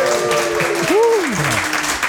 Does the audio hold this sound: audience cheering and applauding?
yes